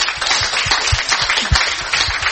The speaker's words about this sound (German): Geben wir doch einen Applaus.